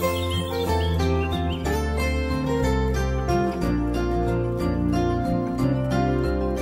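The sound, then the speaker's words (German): A bright, cheerful children's TV theme jingle plays steadily and fairly loud, with sustained melodic tones, a bouncy rhythmic pulse and chirping birdsong woven through, with no voices. “Das Baumhaus im Kika, die Sendung mit der Eule und der Gewinnschatztruhe.”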